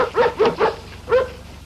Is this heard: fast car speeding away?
no